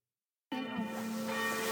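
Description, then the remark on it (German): A church bell strikes the hour at 6 p.m., after dark, following a moment of silence; its deep, resonant tone rings on and hums steadily with no voices present. “So, es ist 18 Uhr, wie man auch an den Kirchenglocken hört.”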